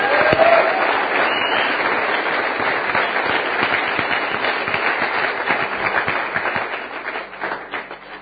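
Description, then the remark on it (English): A crowd applauds steadily for several seconds as a group of people leave for a room prepared next door, a dense wash of many hands clapping at once, loud throughout and thinning slightly toward the end, with a brief whistle near the start. “Let's give them a hand as they go.”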